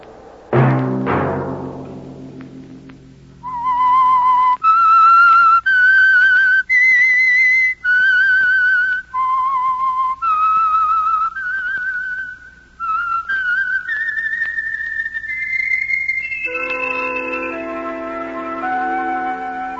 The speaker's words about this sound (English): Let that whistle be your signal for the Signal Oil program, The Whistler, each Sunday night at this same time.